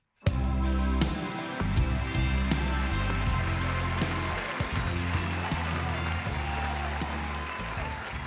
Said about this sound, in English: Please, a big round of applause for journalist, broadcaster, and podcaster. It's Miranda Sawyer.